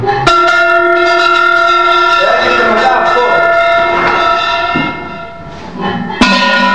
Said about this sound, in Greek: Από 5 κιλά και πάνω χτυπάει χοντρά. Από 5 κιλά και κάτω χτυπάει πιο ψηλά, πιο γλυκά. Λοιπόν, το κουδούνι όταν χτυπάει γλυκά. Δες τι γίνεται τώρα. Ξεκινάμε να χτυπάει τώρα το κουδούνι το πρώτο, έτσι αυτό.